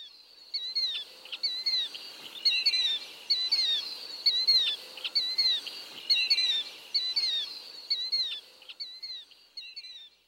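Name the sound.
killdeer call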